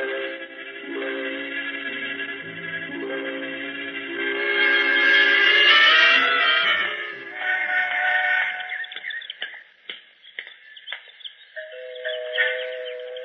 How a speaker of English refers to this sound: Even the door chimes sound rich.